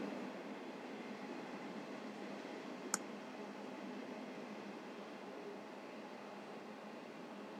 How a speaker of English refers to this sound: All right, guys, sorry for Facebook Live here. Just hang in there a second. The train's going by. I might have to get out there and push it myself soon.